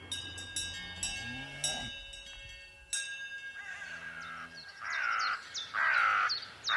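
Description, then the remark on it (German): Carrion crows caw repeatedly in harsh, loud calls that grow stronger toward the end, following a low tractor engine drone and some sharp knocks at the start, in a valley with grazing cows, while a dog tries in vain to chase the crows. “Ein Traktor zieht seine Bahnen, begleitet vom aufgeregten Bellen eines Hundes, der die Rabenkrähen vergeblich zu jagen versucht.”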